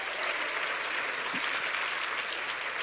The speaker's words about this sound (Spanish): Y si usted lo cree, dele un mejor aplauso al Señor.